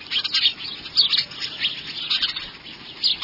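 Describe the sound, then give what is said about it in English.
Busy, continuous chirping from a house sparrow, bright repeated chips and tweets coming in quick irregular bursts at moderate volume, with no voices present. “The name house sparrow fits it well because from Bangor, Maine to San Diego, British Columbia to the Panama Canal, and even in Hawaii, it's found nearly everywhere people live.”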